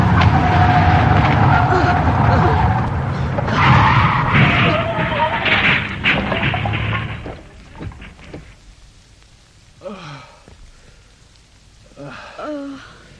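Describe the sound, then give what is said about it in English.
A souped-up rally car roars for about seven seconds, its tires squealing as it skids through a bend, before the noise drops away and voices speak briefly in the quiet. “I know this car. It's mine, specially souped up for me for rally driving.”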